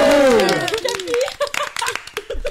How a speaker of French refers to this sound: Allez, applaudissez